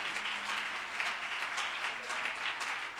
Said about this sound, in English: Oh, if anybody believes that, clap your hands to the Lord.